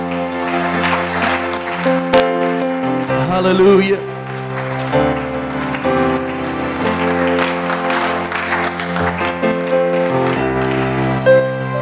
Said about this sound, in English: One more time, can you clap your hands unto the Lord?